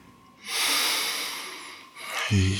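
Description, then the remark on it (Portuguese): A long, steady breath drawn in through the nose, airy, followed by a shorter breath pushed out through the mouth, with a brief low vocal hum at the end. “Isso, puxa pelo nariz e solta pela boca, deusa.”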